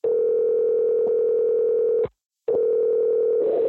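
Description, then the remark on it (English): A steady, loud electronic phone tone sounds for about two seconds, stops briefly, then resumes, as an outgoing call to the speaker's mother's iPhone rings out on the line while being recorded with a Vocaster. No one speaks. “So let's give my mom a call and say hi to her and show you how to do the recording.”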